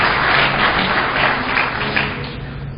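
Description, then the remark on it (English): An audience at a presentation claps steadily for a few seconds during a demo of full disk encryption on Windows, a dense, crackling wash of many hands at an even, fairly loud level, with no one speaking over it. “You can applaud here.”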